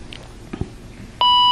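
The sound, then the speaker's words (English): A steady electronic beep from a color detector being calibrated begins abruptly after a second of quiet handling noises and holds at a constant pitch, loud, continuing to the end. “Long beep to indicate that.”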